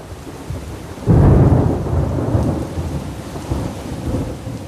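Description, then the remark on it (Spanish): A sudden loud thunderclap bursts out after a second and rolls on in a long low rumble, over a steady hiss of heavy rain throughout, during a terrible night storm in the rainy season. “Los sirvientes prendieron cirios y veladores mientras un concierto de rayos, truenos y relámpagos nos tenía amedrentados.”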